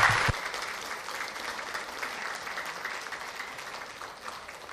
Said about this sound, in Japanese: それでは早速先生をお招きしたいと存じます。どうぞ大きな拍手でお迎えくださいませ。